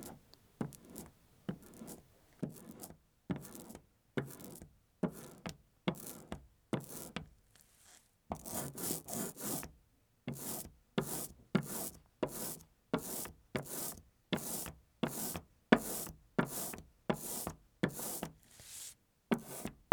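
Paper laid over an inked linocut block being rubbed in steady, rhythmic strokes to pull a print, each a brief dry scratchy swish. The strokes pause briefly partway through, then resume slightly faster and louder. No voices.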